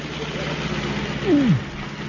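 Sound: lorry engines running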